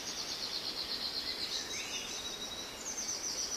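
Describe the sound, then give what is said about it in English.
Faint birdsong fills an ancient pine forest of tall pine trees on a warm summer day, with thin, high-pitched calls and trills running continuously over a soft, steady outdoor background; no one speaks. “It's a warm summer day, and you can hear birds singing and feel the soft, warm breeze on your skin.”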